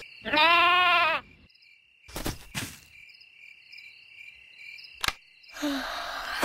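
sheep bleating

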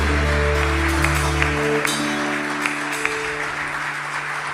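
applause

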